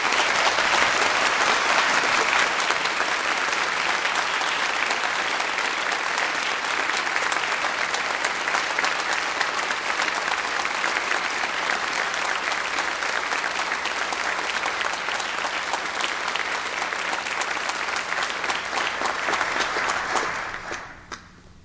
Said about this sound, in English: You may now offer your applause for all of these graduates.